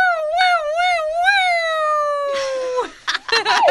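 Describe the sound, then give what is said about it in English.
A person imitates a police siren with a loud, wavering wail that rises and falls a few times, then slides down in one long dip before trailing off into brief laughter or chatter. “let's hear your best police siren.”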